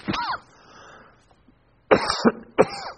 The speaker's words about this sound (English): Sorry, I got a little cough here.